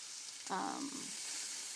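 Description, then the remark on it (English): Meat sizzles steadily in a Teflon nonstick pan with little oil, a constant hiss of frying, with a short scraping stir of a utensil as the meat is flipped about halfway through. “They're just, when I'm frying meats, I don't like to use, even with Teflon, you're sticking here.”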